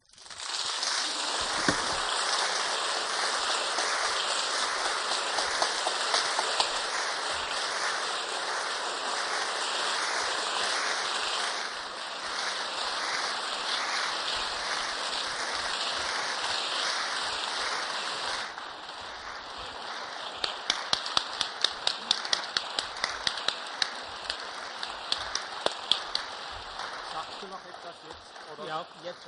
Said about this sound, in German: Über diesen Applaus habe ich mich ungeheuer gefreut, deshalb, weil die Entscheidung für mich sehr schwierig war, ob man das wohl verstehen kann.